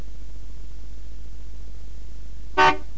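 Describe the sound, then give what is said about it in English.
A single short car horn honk from a car in Tokyo sounds near the end, clear and fairly loud, over a steady low background hum with no one talking. “No, it's not. It's a car.”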